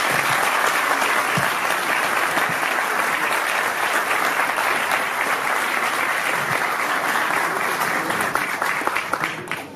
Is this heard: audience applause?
yes